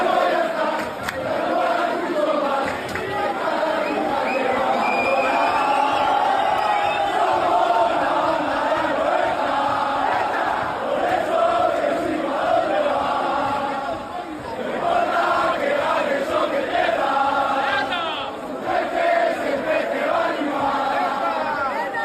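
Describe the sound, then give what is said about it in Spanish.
A large crowd of fans in Seville chants and shouts in celebration, a dense, continuous roar of many voices with rhythmic rises, loud and sustained throughout. “Te voy a poner un fragmento de los gritos que celebraron.”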